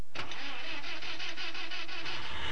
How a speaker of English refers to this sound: Oh, good. My car started. I was worried.